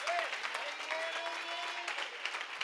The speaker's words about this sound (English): Can you say amen and clap your hands if you're saved and you're redeemed and salvation is in your house?